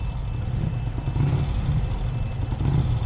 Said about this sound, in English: I'm more interested in that revving sound. It seems to be coming from the other side of this pile.